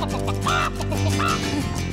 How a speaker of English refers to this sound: Chicken squawking.